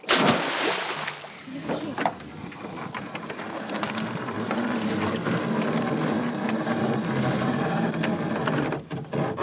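Crab pots are hauled up into a boat: a steady mechanical whir and engine hum run throughout, with scattered clanks, knocks and watery splashing.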